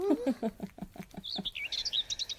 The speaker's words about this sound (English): And would you hear that? The birds are chirping.